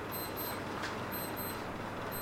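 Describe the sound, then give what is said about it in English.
A wristwatch beeps faintly in quick high-pitched pairs, the double chirp repeating about once a second over a steady background hiss. Nobody speaks. “Been hearing that beeping for days. Somebody's got to fix their watch.”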